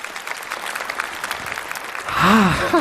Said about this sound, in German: Und deswegen jetzt nochmal den 1-Punkte-Applaus, gerne auch mit so leichtem Räuspern und sehr, sehr langsam klatschen, aber mit Respekt.